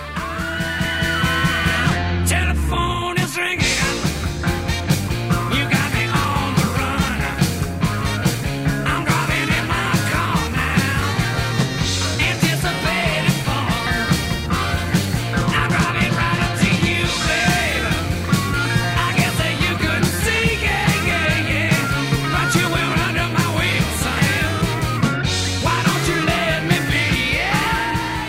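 A loud, continuous rock song plays throughout, with a driving, repeating bass line under dense guitars and forceful, shouted-sounding vocals, keeping a steady, energetic level from start to finish.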